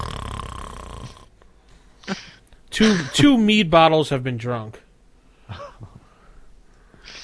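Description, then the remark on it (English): A voice imitates the loud, rasping snore of a man lying on the floor for about a second, then after a short pause a person speaks a brief sentence, followed by faint breathy noises. “And he's snoring loud.”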